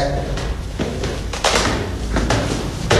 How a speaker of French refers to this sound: Porte coup de feu, à maintenir fermée. Ouvrez la porte.